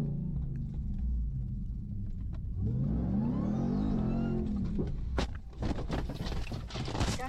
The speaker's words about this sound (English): That was Brendan Schaub attempting a donut in his truck and flipping over on camera.